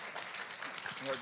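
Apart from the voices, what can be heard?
audience applause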